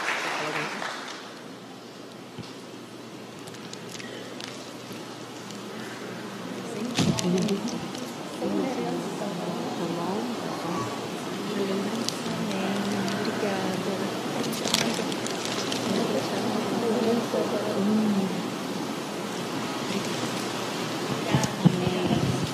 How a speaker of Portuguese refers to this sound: Uma salva de palmas ao Senhor pela vida dessas irmãs.